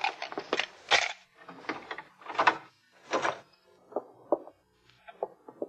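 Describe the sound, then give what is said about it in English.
A series of mechanical clicks and rattles as a door's lock is worked with a pass key, followed by the scraping slide of the door opening, with a few lighter clunks at the end. No one speaks. “You have a pass key? Yeah. All right, open the door.”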